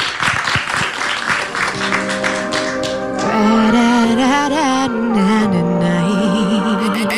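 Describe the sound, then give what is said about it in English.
A crowd claps and cheers for a few seconds for the first performance of a show, a dense burst of audience applause that fades as a sustained singing voice with music takes over. “So can we get a round of applause for our first performance?”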